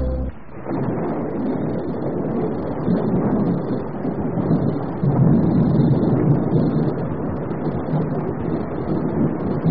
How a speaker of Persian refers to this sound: چه بارانی، باید کشتزارهای من را برای آبیاری آماده کنیم. رفیق، سال خوبی در پیش خواهیم داشت. آره، این باران باران رحمت نیست،